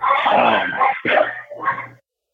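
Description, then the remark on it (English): A dog barks and yips excitedly, a long run of loud, rough barking followed by two shorter bursts, with no one talking. “Oh, God, this dog.”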